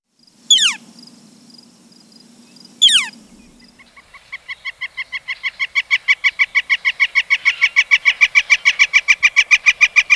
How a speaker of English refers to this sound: Northern flicker.